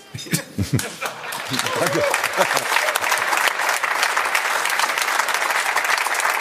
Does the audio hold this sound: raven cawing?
no